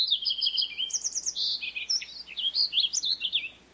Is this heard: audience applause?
no